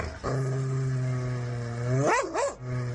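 A dog holds a long, steady low growl for a couple of seconds, then lets out two quick rising barks before the growl resumes. No one speaks.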